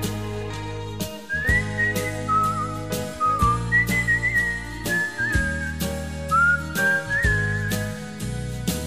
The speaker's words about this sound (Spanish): altivo como un rey, silbando una canción de amor.